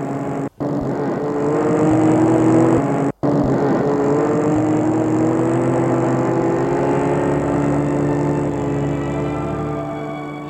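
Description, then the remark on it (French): An unmarked car's engine hums steadily and loudly as it drives a woman home, its pitch drifting slightly, with two abrupt momentary cutouts early on and no voices. “Et il la raccompagne chez elle, en voiture neutre, et les commissaires sont en civil.”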